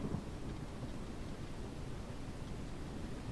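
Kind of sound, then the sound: nature, thunder and rain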